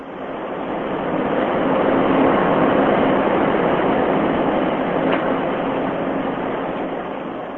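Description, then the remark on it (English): A 250-passenger high-speed catamaran ferry on Lake Michigan reaches top speed, shooting large white plumes of water out the back; its engines and churning wake make a steady, loud roar of rushing water and mechanical rumble that holds unbroken for several seconds, with no voices. “Large white plumes of water shoot out the back of the Lake Express as it reaches top speed.”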